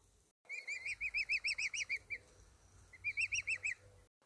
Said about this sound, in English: Well, at last, the large egg broke, and a young one crept forth, crying, "Peep, peep."